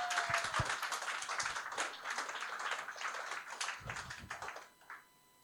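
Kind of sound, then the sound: crowd, audience applause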